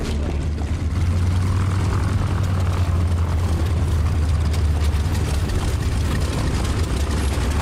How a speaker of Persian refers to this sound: شما هم شنیدی؟ هواپیماست.